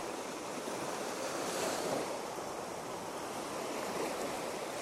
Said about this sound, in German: Das rauschende Wasser und die Erde, die hier in Form von Sand vor mir liegt, auf der ich stehe.